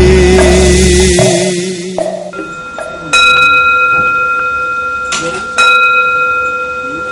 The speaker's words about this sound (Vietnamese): Chuông chùa thong thả buông lơi, chuông chùa thong thả buông lơi.